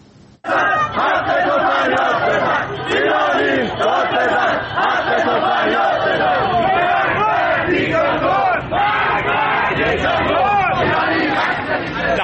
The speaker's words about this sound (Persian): در تهران نیز علاوه بر شعارهایی که پس از مسابقه فوتبال در ورزشگاه آزادی سر داده شد، تجمعاتی نیز در حوالی پارک دانشجو و محلات اطراف آن شکل گرفت که معترضان از جمله شعار می‌دادند مرگ بر دیکتاتور و ایرانی داد بزن، حق تو فریاد بزن.